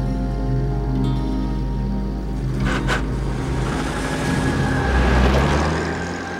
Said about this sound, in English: He watches the car disappear.